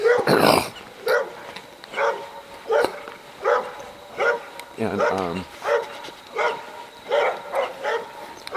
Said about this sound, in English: There's some obnoxious dogs here, but I'll just keep on talking.